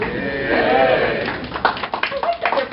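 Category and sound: crowd, audience applause and clapping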